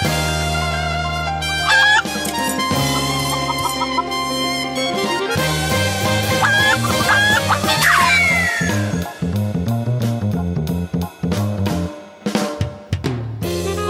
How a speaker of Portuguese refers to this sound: Bora pra abertura aí pela centésima vez.